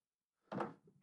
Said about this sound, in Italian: non mi era venuta la tosse fino ad ora.